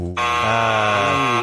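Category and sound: signal or alarm, game show buzzer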